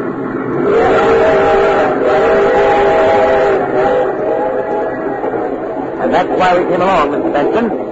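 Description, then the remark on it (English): A train bound for Centerville rumbles steadily along the rails while a long, wavering whistle sounds early on, followed by quicker rhythmic clatter of the wheels toward the end, loud throughout. “I've reserved a compartment for us aboard the train that's taking the Green Wings to Centerville.”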